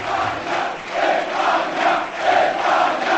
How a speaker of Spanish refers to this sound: Gritos de España, España, gritos de presidente, presidente. El griterío es total, la euforia.